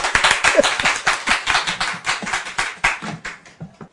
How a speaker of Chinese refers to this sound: 所以今天讲经还不错哈，赞，拍手。